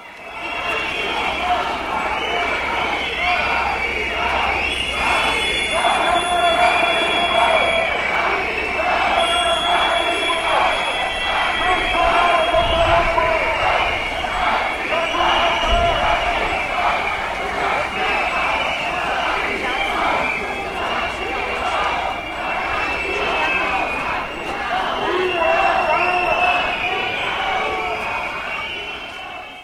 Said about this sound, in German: Wo immer die Neonazis im Verlauf ihrer Demonstration auftauchen, werden sie von zahlreichen Menschen mit Buhrufen und Pfeifen empfangen.